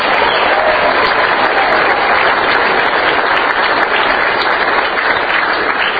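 A large audience claps steadily throughout in a round of applause for Governor Pawlenty: a dense, loud wash of many hands with bright, crisp clicks and no pauses, sustained at an even level for several seconds.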